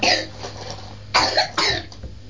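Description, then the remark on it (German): A child blows their nose: a few short, breathy, snorting blasts of air with brief pauses between them, and no talking. “Oh, Nase putzen. Prima machst du das.”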